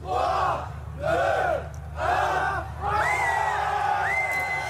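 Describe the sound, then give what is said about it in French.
A crowd of more than 2,000 people gathered outside the Apple store on the Champs-Élysées in Paris on 27 November 2007 for the iPhone's arrival in France cheers and chants in loud, rhythmic bursts, four swelling shouts about a second apart, over a constant low rumble of the gathering. “Plus de 2000 personnes se sont massées devant le magasin Apple sur les Champs-Élysées à Paris.”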